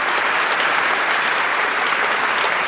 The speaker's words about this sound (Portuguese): Merece uma salva de palmas, não é? Palmas, palmas, palmas para a Hora do Fazendeiro da Rádio Inconfidência de BH.